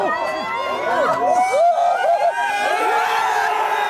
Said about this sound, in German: Jubel der Erleichterung. Von Beginn des Spiels an geben die roten Teufel den Takt vor. Es ist eine Art Pop-up Public Viewing. 2 Uhr nachts. Ein paar Dutzend Fußballfans rund um eine kleine Leinwand nahe der Kathedrale im Zentrum von Brüssel.